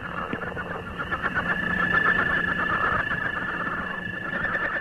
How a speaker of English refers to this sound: Here's one of my personal favorites, the northern leopard frog.